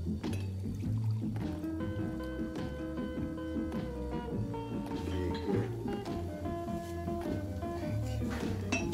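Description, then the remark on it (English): Beer pours steadily into glasses, a continuous gurgling stream with a ringing, tonal quality that carries on without a break for several seconds at an even level. “Raymond, where's the fucking beer, man? It's right here, Frank. You want me to pour it?”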